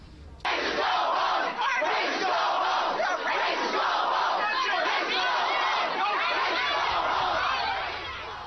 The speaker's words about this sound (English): People shouting things like, racist, go home, we are not the problem.